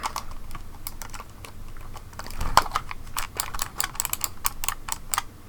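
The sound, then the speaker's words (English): Rapid, irregular keystrokes clatter on a computer keyboard that is being checked after it was knocked off the desk, steady for several seconds, with one slightly heavier thump near the middle and no voices. “I'll just make sure the keyboard and mouse are fine after getting knocked off the desk.”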